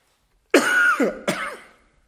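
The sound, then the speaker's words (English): Two harsh coughs in quick succession, the second slightly softer and trailing off, with no talking around them. “I'm going to call for the special number to see if I can get rid of this cough.”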